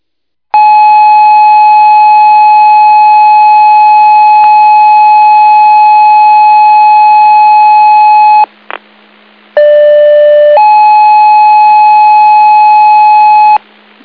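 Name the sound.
emergency dispatch paging tones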